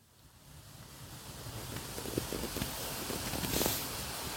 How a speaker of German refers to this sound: So klingt der Rosenbach. Er fließt am Gebäude vorbei und etwas später in den Hesperbach.